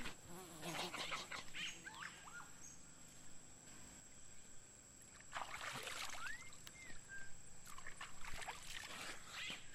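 A few bursts of rising, swooping calls from a howler monkey in a tree by a river ring out over a constant high insect drone and faint water sounds.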